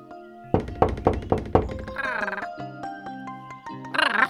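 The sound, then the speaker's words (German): Five firm knocks on a door in a quick, slightly uneven sequence, clear, followed by a voice answering from inside. “Komm, wir klopfen mal an.”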